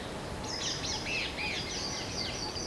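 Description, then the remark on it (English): Birds sing and chirp in quiet woods, high warbling notes and short tweets overlapping continuously over a soft background hush, with no voices. “All I could hear were birds.”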